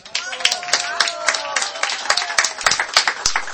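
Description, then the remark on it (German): An audience applauds steadily, a dense patter of many hands clapping, with a few louder individual claps standing out and a faint voice mixed in. “Ich hoffe, die Martha hat den Applaus jetzt gehört in Budapest.”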